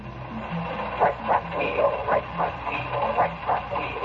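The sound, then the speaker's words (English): A train rolls along the rails with a steady, repeating clack of wheels over track joints, layered over a low rumbling hum and a soft hiss. “I know. The train is talking.”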